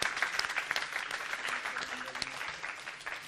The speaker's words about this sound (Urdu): آپ بھی اگر راضی ہوں تو تالیوں سے استقبال کیجیے.